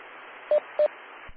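Two short, identical electronic telephone control tones, played into a phone, beep in quick succession over a steady hiss of line noise, each lasting under a tenth of a second, followed by a faint low thump at the end.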